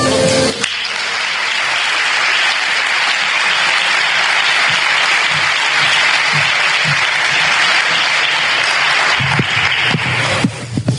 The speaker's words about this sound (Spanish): Bienvenido a Cabra, centro geográfico de Andalucía y puerta de la Sierra Subbética. Recibamos con un fuerte aplauso a doña María Dolores Villatoro, alcaldesa de la muy noble y leal ciudad de Cabra.